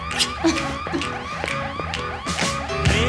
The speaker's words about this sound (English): On his way out, he hits the fire alarm.